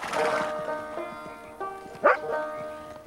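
A shaggy, light-coated, retriever-like dog, wagging its tail, gives a few short barks and yips as it stops horses in their tracks at night on a dark plain, with a louder sharp bark near the end, over a steady tonal background.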